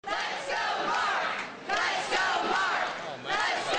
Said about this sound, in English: Supporters cheering him again, Mark Sanford winning in the first congressional district in the very unaverage city of Charleston, South Carolina.